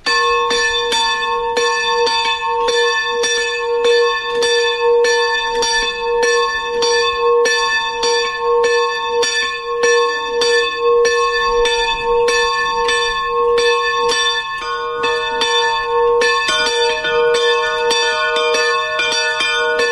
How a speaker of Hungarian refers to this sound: Az elmúlt percekben hallható harangszó a miskolctapolcai sziklakápolna harangja volt.